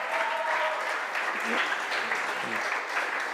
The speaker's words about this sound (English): Yeah. Can we clap for them, please?